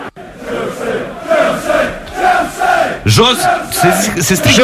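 A large crowd shouts a rhythmic chant of "Jos" ("down") in loud, swelling waves of massed voices, with a sharper, louder burst of shouting breaking out partway through.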